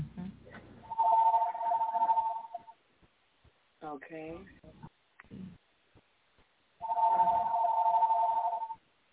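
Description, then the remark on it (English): A phone rings in two long, steady bursts a few seconds apart, fairly loud, with someone murmuring briefly in the gap between rings. “Is somebody's phone?”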